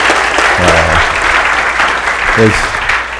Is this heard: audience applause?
yes